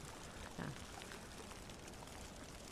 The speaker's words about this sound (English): And the microphones, I think, are getting wet. This is estuarine. And the water's coming in. Protect the microphones.